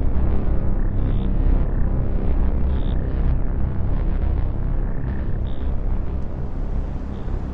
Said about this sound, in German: Dunkle Wolken waren aufgezogen. Ein mächtiges Grollen war zu hören. Dann folgten die ersten Blitze.